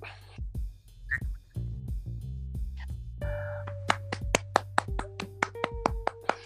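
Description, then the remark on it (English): One person claps hands in sharp, irregular bursts that grow quicker and more frequent toward the end, over a steady low hum and faint tonal sounds. “That is me clapping.”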